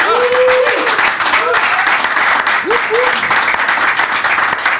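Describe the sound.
Loud, steady audience applause fills the whole stretch, a dense wash of clapping with a few brief voices or whoops rising over it now and then.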